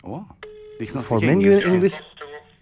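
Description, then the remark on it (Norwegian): A steady electronic telephone keypad tone holds for over a second while a voice speaks over it, followed by a shorter beep near the end, as buttons are pressed to make a choice in an automated phone menu. “Nå kommer det sånn et valg snart. Du må trykke på noen knapper.”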